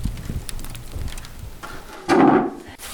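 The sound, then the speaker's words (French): Bread fresh from the oven crackles as it cools, with scattered small pops and ticks, then a brief louder rustling burst near the end. No one speaks. “Crépitement du pain qui vient de sortir du four.”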